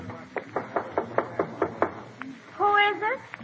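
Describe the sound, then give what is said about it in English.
A quick run of about eight sharp knocks on a dressing room door with a star placard, evenly paced, followed by a single faint tap and then a short burst of someone speaking. “Knock first. Don't walk in.”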